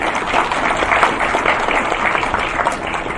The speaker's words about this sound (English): So give him a round of applause, please.